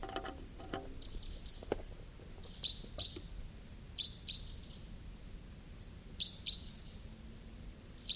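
Wild birds calling outdoors: short, high chirps repeat in pairs every second or two over a steady low rumble, with a few clicks early on and no voices.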